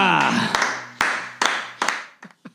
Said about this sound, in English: Love the applause.